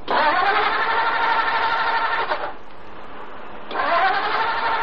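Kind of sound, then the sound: vehicle, car engine being started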